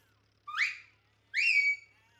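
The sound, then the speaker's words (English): Two sharp, shrill shepherd's whistle blasts, each sliding upward in pitch, separated by a short pause; loud, with no other sounds around them. The blasts are a command to the sheepdog Sweep, sending it to the sheep. “Then Matt gave two long, sharp blasts with his whistle.”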